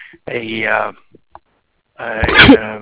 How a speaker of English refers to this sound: Bless you. Thanks.